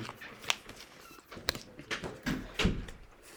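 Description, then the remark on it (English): Playing cards being shuffled and handled: soft papery rustling broken by a few sharper, irregular snaps and clicks, fairly faint, with no voices. “I can't see who picks what, and I got to shuffle around.”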